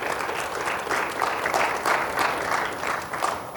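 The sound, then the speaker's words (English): A crowd applauds the residents of a rehab, dense overlapping claps forming a loud, continuous wash of sound with slight rhythmic surges throughout, no voices standing out. “Let's give the rehab a good clap offering.”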